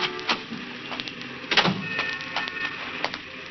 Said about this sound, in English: He was just sitting there, waiting for her to come out, when the squad car came around the corner and stopped. Two patrolmen got out.